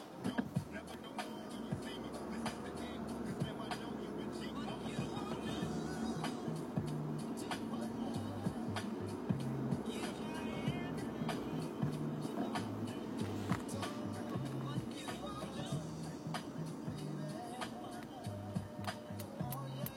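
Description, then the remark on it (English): A car drives through city streets in San Francisco on a weekend, a steady low engine and road rumble filling the cabin, with scattered clicks and bumps and faint, indistinct voices mixed into the constant noise. “I guess I am driving to a part of town that is completely barren on the weekends.”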